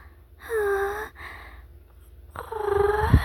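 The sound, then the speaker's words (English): A human voice imitates a cat, making two drawn-out purring vocal sounds with a soft pause between them, the second ending in a raspy, rumbling flutter. “Do you like it when I purr in your ear?”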